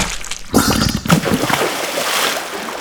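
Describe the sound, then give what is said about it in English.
Water gushes out with a sudden loud splash as a pregnant person's water breaks, then a second burst, followed by a continuous sloshing, splattering wash that stays fairly loud until the end. “Ooh, it looks like your water broke.”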